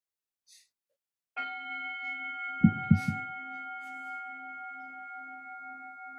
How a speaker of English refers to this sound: So the invitation is to let the sound of that bell bring you, your mind, body, heart, into the present moment